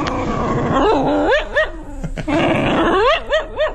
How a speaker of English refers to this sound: That's so cute. Something about a dog growl that just makes me laugh. She's very, very talkative, you know.